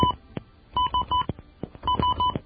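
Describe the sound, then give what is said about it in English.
A quick series of clear telephone keypad dialing beeps, placing a call to the University of Melbourne in Australia, coming in short clusters of two or three tones with brief pauses and faint clicks between them. “Fortunately, nobody can decode these little beeps because they all sound the same.”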